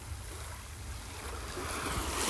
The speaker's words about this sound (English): And perhaps you can begin to notice where the sound of the sea is soothing you, whether it's in your mind, with the way you think, whether it's in your body, with the way you physically feel